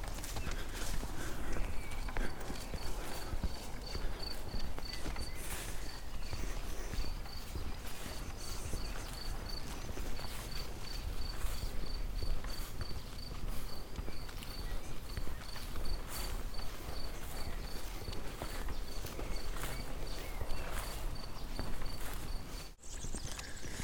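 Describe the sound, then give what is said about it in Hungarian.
Crickets chirp in a steady, high-pitched pulsing trill that runs almost the whole time, set against a dense background of rhythmic footsteps or hoof-like clopping, during a long walk past the 32nd kilometre, after the wind has died down, at about quarter past three. “Tücskök ciripelnek.”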